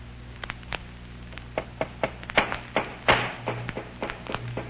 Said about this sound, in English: Well, they're hammering that crate tight shut.